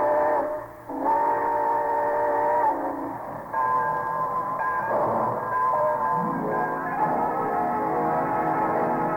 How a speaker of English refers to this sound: So folks, be sure to join us again next Monday and ride with us aboard the summer show train back to 1935. All aboard! Well, it looks as though we're ready to pull out.